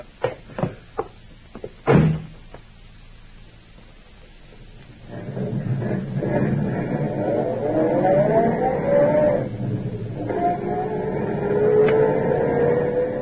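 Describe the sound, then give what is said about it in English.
A few sharp clunks of car doors shutting, a short pause, then an engine rumbles up and revs, its pitch climbing through the gears as the car pulls away, loud. “Hop in, Peter.”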